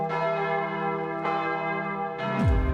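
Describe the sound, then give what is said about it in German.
Carillon bells in the tower of the Matthäuskirche church chime in overlapping, ringing strokes, their tones sustaining and blending, with a new strike every second or so and a low sweeping tone near the end. “Beste Aussichten vom Turm der Matthäuskirche, die bekommt man schon für eine kleine Spende am Eingang und das schöne Glockenspiel sogar gratis.”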